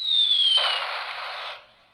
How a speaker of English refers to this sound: And we have the sound of a bomb dropping.